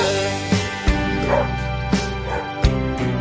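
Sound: dogs barking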